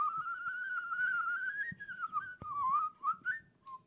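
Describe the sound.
A person whistles a long, steady, slowly rising tone like a tea kettle, then breaks into a few shorter wavering notes, fairly loud with no talking.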